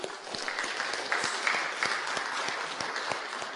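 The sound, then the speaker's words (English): An audience claps for reaching its fundraising total for the Texas Baptist Hunger Fund, a dense patter of many hands at an even loudness, with a brief high whooping cheer rising above the applause partway through. “Why am I the only one that went, woo? Everyone else just clapped, right?”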